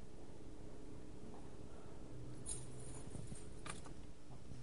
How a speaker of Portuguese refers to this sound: É como alguém que tem chaves. Dá-me essas chaves ali.